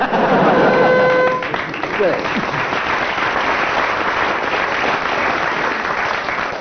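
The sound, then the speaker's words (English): A studio audience at a comedy panel game bursts into sustained applause mixed with laughter and cheering, with Barry Cryer slightly ahead on applause. It is steady and fairly loud throughout, with a few voices and a brief whistle audible at the start. “On general aggregate of applause there, Barry Cryer is slightly ahead.”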